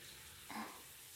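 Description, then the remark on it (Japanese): Shower water runs in a bathroom in a soft, steady hiss, fairly quiet and continuous, with a brief slightly louder splash partway through, while waiting for the water to warm up; no voices. “シャワーが暖かくなるまで少しお待ちください。”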